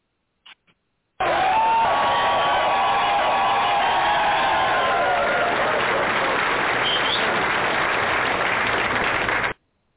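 A loud, sustained burst of crowd applause and cheering opening the Disrespected Trucker Radio Show, with dense clapping and whoops that start abruptly after a couple of brief clicks and run steadily for about eight seconds before cutting off.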